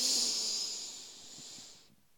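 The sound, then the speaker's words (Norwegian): A long, deep breath drawn in through the nose, a steady airy hiss lasting nearly two seconds before stopping abruptly. Fairly quiet, with no talking. “Pust godt inn med nesa.”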